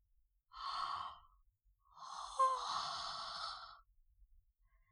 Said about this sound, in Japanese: 私もおじさんにつられてあくびしちゃった。